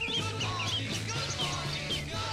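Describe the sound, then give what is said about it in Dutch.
Several birds chirp and twitter continuously in a busy chorus in a song recording, layered over a steady low droning hum that runs through the whole moment. “En dan horen we achter en volgens, luistert u met me mee, vogels.”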